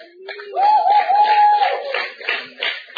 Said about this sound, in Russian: Ребята, вот кто-то хлопает, кто-то от этого пострадал.